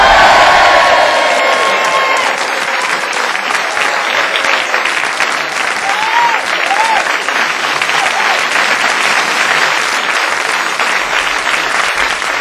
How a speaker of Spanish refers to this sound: y esta vez se han enterado que estábamos aquí y han venido todos corriendo y aplauden.